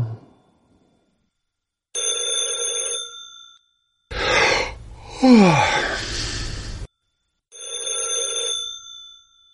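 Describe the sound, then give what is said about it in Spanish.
An old telephone bell rings in two long, buzzing bursts, separated by a loud, rough, breathy sound that sweeps downward in pitch, like a startled groan or gasp. “Los timbres siempre me han dado horror. Incluso durante el día, cuando trabajo en mi despacho, contesto al teléfono con cierto malestar.”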